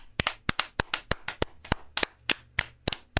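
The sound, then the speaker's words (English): A short burst of applause for Coach Jim Harbaugh: about fifteen sharp, crisp hand claps in a fairly steady, slightly uneven rhythm, fairly loud and with no voices underneath. “Coach Harbaugh deserves a huge round of applause.”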